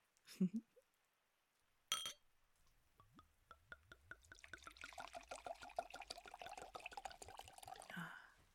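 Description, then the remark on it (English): A faucet turns on after a soft thump and a click, starting as a drippy trickle and swelling into a steady stream of water splashing into a glass. “I'm gonna get a glass of water.”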